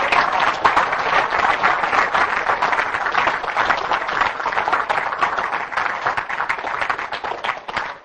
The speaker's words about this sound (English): Give the Lord a hand clap in here this morning. Hallelujah.